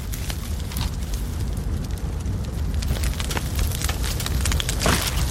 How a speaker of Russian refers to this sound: Скажи, круто, да? Костер, природа.